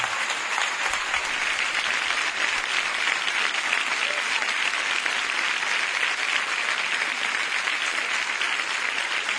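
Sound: audience ovation applause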